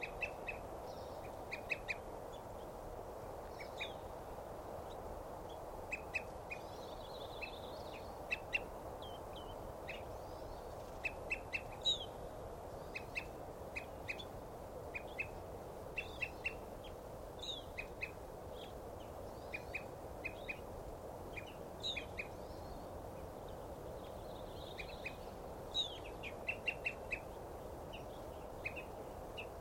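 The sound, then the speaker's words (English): A bird gives a long series of short, repeated tooping calls at an uneven pace over a steady low background hiss, with other faint bird notes mixed in. No one speaks. “Now that bird's tooping, and there's a eating grosbeak there.”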